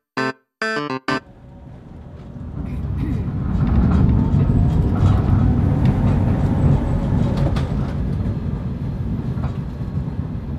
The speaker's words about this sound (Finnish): Tatu ja Patu saapuvat raitiovaunulla Linnanmäen pysäkille.